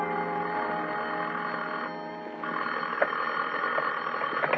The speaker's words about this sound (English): The only reason I woke up then was because somebody was ringing a telephone in my ears.